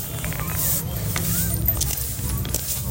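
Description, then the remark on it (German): A woman sweeps a pile of spent cartridge cases, scraps of torn Assad pictures and old flags with a broom in downtown Damascus, a steady, continuous brushing scrape with a few light metallic clinks over a low background rumble and faint murmur. “schiebt einen Haufen Patronenhülsen, Reste von zerrissenen Assad-Bildern und alten Fahnen mit dem Besen zusammen.”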